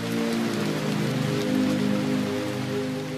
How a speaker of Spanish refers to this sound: En el Catatumbo, el trueno sigue sonando. A veces viene del cielo, a veces baja de las montañas con la lluvia, y otras veces se confunde con el eco lejano de la guerra.